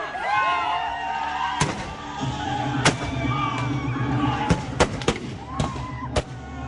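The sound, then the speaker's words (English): A staged night battle in an outdoor frontier-history play set in a natural amphitheater, Shawnee warriors against white settlers, with sharp gunshots and heavier cannon blasts going off irregularly, about eight in quick succession, loud over a busy, droning background of voices and sustained tones. “Flaming arrows fly through the night, knives and spears flash, guns and cannons spit fire.”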